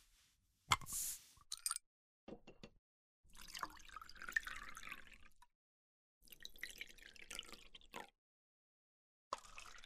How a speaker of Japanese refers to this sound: あ、そうだ、ビールお注ぎしますね。 さあお兄さん、グラスをどうぞ。